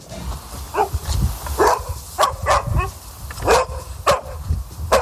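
A dog barks repeatedly in short, sharp bursts with an irregular rhythm, fairly loud, over a rumbling low background.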